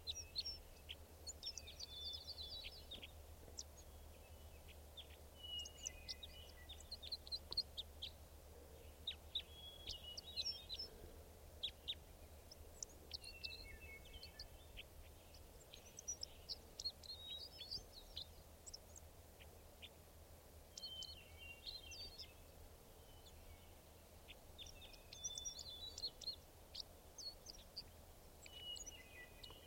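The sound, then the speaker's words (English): Wild birds call continuously, with many high chirps, trills and tweets overlapping throughout, set over a low, steady background rumble; the whole recording is fairly quiet and no one speaks. “Wild bird calls.”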